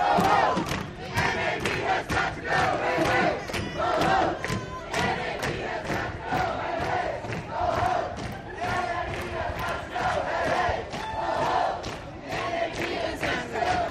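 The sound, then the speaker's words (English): A crowd of about 50 people trying to get into the Moscone Center for the NAB conference yells and shouts continuously while loud, irregular bangs pound on the front doors throughout, the thuds coming in rapid, uneven bursts over the steady roar of voices. “People trying to get into the Moscone Center, banging on the doors.”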